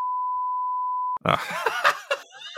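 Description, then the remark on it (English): A single loud, steady censor beep over a name holds for about a second, then cuts off abruptly into voices, with what sounds like laughter and chatter. “We also, we beep that, as well, beep out the name and the nickname.”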